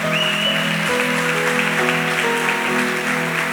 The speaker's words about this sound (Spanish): Todo ese es un trabajo tan especial, es un trabajo loable y merece reconocimiento. Así que les vamos a dar un aplauso a todos ellos.